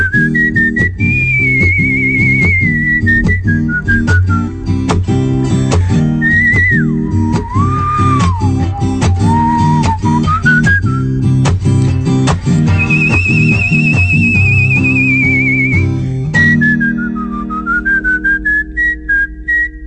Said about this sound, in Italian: Una delle cose che ricordo di quella giornata è la domanda: dove hai imparato a fischiare così bene? Ma mi viene naturale, beato lui, perché io non so assolutamente fischiare.